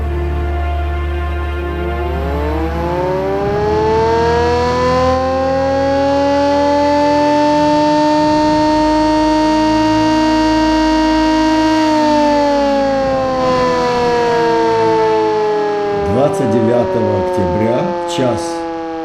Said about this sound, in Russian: Час 30, боевая тревога. И наш корабль был флагманский на Черном море, а я служил БЧ-5, называлось.